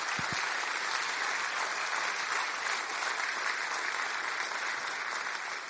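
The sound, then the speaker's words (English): A crowd applauds for a pastor, a dense wash of many hands clapping at an even, fairly loud level that holds for several seconds without pause. “We could put a round of applause for Pastor Rob”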